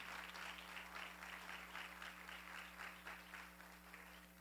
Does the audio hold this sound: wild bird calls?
no